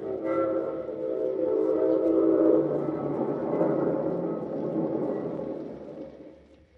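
A freight train rolls along with a steady, heavy rumble, its horn blaring in sustained tones at the start before the clatter takes over and fades away at the end. The unconscious Joe Palooka lies in an ordinary empty freight car, carried out into the freezing night.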